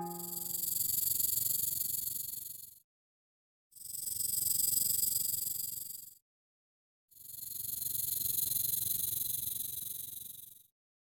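A snake moving through grass toward the listener hisses in three long, sustained bursts, each a few seconds long and separated by short silent pauses. The hissing is fairly loud, with no voices present.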